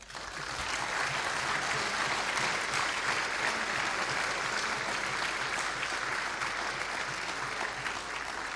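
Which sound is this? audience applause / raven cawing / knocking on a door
audience applause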